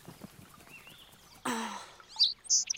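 Sparrows chirp in a few short, bright bursts near the end, fairly loud, following a breathy rushing sound; there is no talking.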